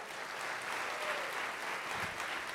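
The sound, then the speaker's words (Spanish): A church audience claps for the Lord steadily in a dense, continuous wash of applause that holds at an even loudness throughout, with no voices standing out above it. “¡Aplauda más fuerte al Señor!”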